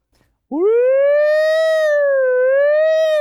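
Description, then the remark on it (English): A loud emergency-vehicle siren in Milton starts abruptly with a wail, sweeps upward, then holds a steady wavering tone for about three seconds with no other sounds around it. “we lived in New York City with the number of ambulances and sirens that you hear all day long in Milton.”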